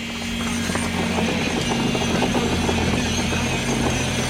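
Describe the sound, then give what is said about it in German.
Electric vibrating rods, thick handheld metal poker vibrators, hum steadily in a hall as they compact clay from a mixer into wooden grid formwork for the first element: a loud, continuous low drone with a buzzing tonal edge and a busy mechanical rattle underneath, without any talking. “Es brummt in der Halle, weil der Lehm aus dem Mischer beim ersten Element mit Handrüttelflaschen in die Holzgitter eingebracht wird.”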